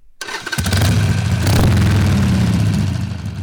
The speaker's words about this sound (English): revs the engine of his Harley-Davidson, it might sound angry to some, but not to him.